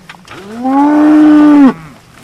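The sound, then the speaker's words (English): A single long, loud moo from a dairy cow on a farm, rising and holding steady for about a second before cutting off, with no talking. “As you can see from we have roadways through the farm because our cows are dairy cows and they need to be able to walk on nice clean roadways to get from one paddock to the next.”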